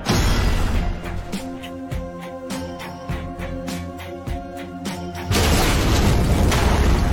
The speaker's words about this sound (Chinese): 能量在哥斯拉体内开始紊乱爆炸，连带着哥斯拉巨大的身体一起四散开来。